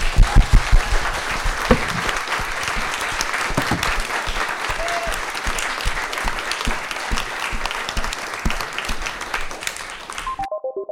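A crowd bursts into loud, sustained applause, dense clapping filling about ten seconds before cutting off abruptly, followed by a brief descending electronic tone.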